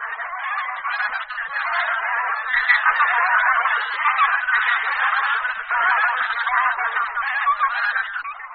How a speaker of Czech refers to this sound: Hlas husí polní je poměrně typický a v každém tom projevu je jasně slyšitelné dvou nebo tří slabičné ga, ga anebo kajak.